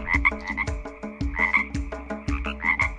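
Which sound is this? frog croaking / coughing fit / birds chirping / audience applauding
frog croaking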